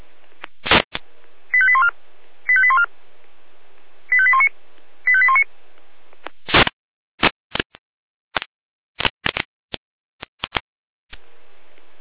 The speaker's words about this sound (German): Alarmruf.